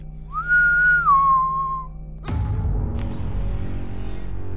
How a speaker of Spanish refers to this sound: Y a lo lejos, no sabe si en su cabeza o afuera de la iglesia, el tétrico silbido.